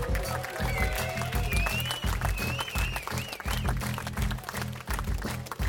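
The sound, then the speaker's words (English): An audience applauds Mr. Toby Nash loudly and steadily, a dense patter of many hands clapping throughout, with wavering whistles and cheers rising above it and a low, pulsing rumble underneath. “Hey, and before we go, applause, applause, applause, Mr. Toby Nash.”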